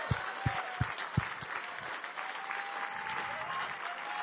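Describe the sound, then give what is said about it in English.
An audience applauds to honor two people, steadily for several seconds, a dense wash of clapping with a few sharp, loud claps standing out near the start, then settling into a sustained, even roar of hands. “It's the smile and applause of heaven over you guys.”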